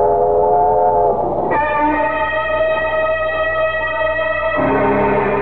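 A train rumbles steadily along the rails, loud, with sustained whistle-like tones that shift pitch partway through. No one speaks.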